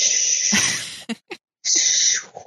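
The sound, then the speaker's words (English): A voice imitates ocean waves with a long, loud breathy hiss, two short puffs, a brief silence, then another sustained shushing rush. “Is that a good ocean sound?”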